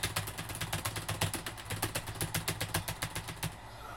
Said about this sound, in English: Time to get strong. How hard can it be? Press the space key until you fill up the bar.